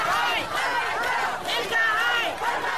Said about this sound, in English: Crowds chanted Mohamed's nickname, Farmajo, while he rolled by in a tank, pumping his fist. I could see their emotion was very, very high. They chanting Hagulesto Farmajo, meaning that stay in office.